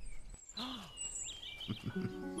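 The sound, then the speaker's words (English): Bird calls ring out after a bird swoops down, in a quick string of chirps and rising and falling whistles, clear, with a short burst of noise just before them and no talking. “Then it's whipped from his grasp by the claws of a swooping bird.”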